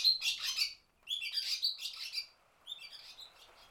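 Barn swallow chicks being fed call in three busy bursts of high, rapid chirps and squeaky begging notes, separated by short pauses, the first bursts louder and the last one softer. No one speaks.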